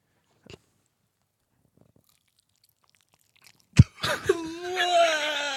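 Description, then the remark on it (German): After near silence, a sharp crunch of someone biting into a large pastry with lemon syrup, followed by chewing sounds and a drawn-out, wavering moan of enjoyment. “So, Moment, ich will einmal abbeißen.”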